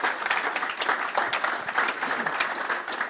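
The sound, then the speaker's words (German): An audience claps steadily throughout after a speaker is thanked, a dense wash of overlapping hand claps at fairly even loudness with no voices standing out. “da wollte gerade jemand klatschen. Das nehmen wir mit, das ist auch immer schön für die Leute, die es dann hören.”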